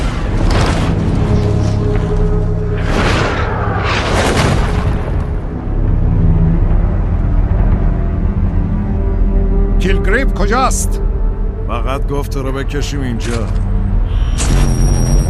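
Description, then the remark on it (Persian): A deep, rumbling boom from a sonic blast device being tested fills the scene, with loud low-frequency blasts and a sustained roar beneath tense, hurried voices speaking over it. “برای امتحان این دستگاه انفجار صوتی نیاز داشتم نزدیکتر بیام.”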